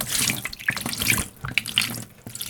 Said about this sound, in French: Puis, tout doucement, sans faire de bruit, Maria et Silio vont verser la potion dans la fontaine en plein milieu de l'école.